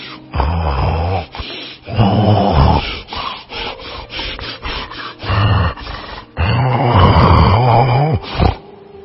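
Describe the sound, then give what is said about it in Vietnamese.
A voice imitates a wolf lying asleep and snoring soundly: long, rough, rasping breaths in a slow rhythm, several drawn-out snores with short pauses between them. “May sao, lúc đó bác thợ săn đi ngang nghe tiếng gáy o o lạ lùng quá. Bác nhìn vào thì thấy con chó sói đang nằm ngủ ngáy rất ngon.”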